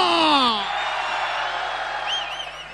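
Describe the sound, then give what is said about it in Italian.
A crowd of men and women at Diabolica in Milan screams and cheers in a dense, sustained roar, with a few high whistles and whoops rising above the noise near the end. “Uomini di Milano che urlano! Donne di Milano che urlano!”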